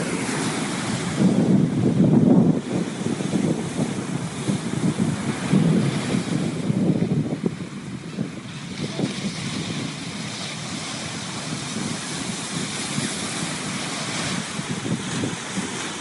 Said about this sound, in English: We will take a moment for you to just listen to the beloved ocean of Gaia's body. And as you listen to this ocean, feel the spirit entering into your body.